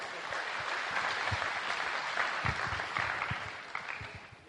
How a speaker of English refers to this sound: So a big round of applause for Andrew. Wasn't that wonderful?